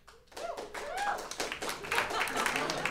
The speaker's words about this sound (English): Golf claps. You got a few. Golf claps. Few.